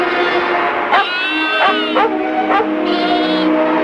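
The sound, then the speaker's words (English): A newborn lamb, found in a small cove between two boulders on a snowy mountain, bleats repeatedly, a series of high, quavering cries with a wavering pitch, each lasting about half a second, loud and clear with no talking. “Bill enters a small cove between two boulders and finds a lamb.”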